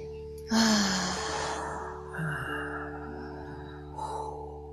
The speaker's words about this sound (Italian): Un altro respiro profondo.